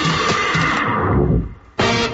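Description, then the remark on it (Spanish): A horse whinnies loudly, a harsh, breathy neigh that fades out before a second burst of sound cuts back in sharply at the end. “Un caballo puede sonar muy bien.”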